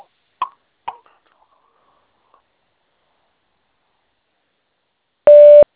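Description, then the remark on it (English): Answering machine beep on the Bubbly Pup Mobile Grooming voicemail: after two soft clicks and a few seconds of near silence, a single loud, steady, mid-pitched electronic tone sounds for about half a second. “If you are a Bubbly Pup customer, please leave your name and number after the tone, and I will return your call as soon as I can.”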